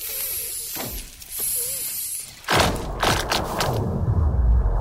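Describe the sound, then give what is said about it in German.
Lake ice cracking and booming, recorded with an underwater microphone lowered through a hole about 20 cm wide drilled into the lake ice: eerie, laser-like zinging sweeps, then a sudden sharp crack that rolls into a deep, sustained rumble with scattered snaps. No voices. “Es knackst, kracht und donnert das Eis.”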